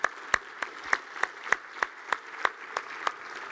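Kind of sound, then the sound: crowd, audience applauding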